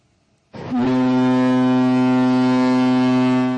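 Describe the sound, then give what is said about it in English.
The horn of the scientific drilling ship Chikyu, departing Shimizu Port in Shizuoka Prefecture, Japan, on a mission to mine rare earths from the seabed, blasts suddenly and holds one long, loud, deep tone with rich harmonics, sounding steadily for about three seconds without speech. “The scientific drilling ship Chikyu left Shimizu Port in Shizuoka Prefecture on Monday.”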